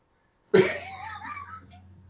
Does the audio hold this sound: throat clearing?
yes